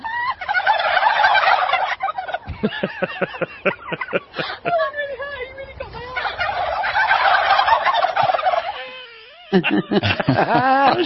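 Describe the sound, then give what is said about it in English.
A loud, dense chorus of turkey gobbling from a huge flock surrounding a woman reporter standing among them, rising in overlapping bursts with brief lulls; the reporter's voice is briefly audible, and the turkeys gobble after she laughs. “So this woman is standing in the middle of like a huge flock of turkeys, and she goes, well, the problem with poultry, and she goes, ha ha, and then all the turkeys start laughing”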